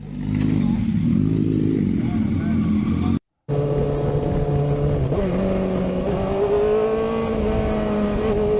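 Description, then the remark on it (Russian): Exhausts of liter-class sport motorcycles howl loudly and steadily, a rich harmonic engine drone. It breaks off for a moment, then resumes with the pitch rising as the engines rev higher. “Вот они воют, литры, они спортивные литры, они воют.”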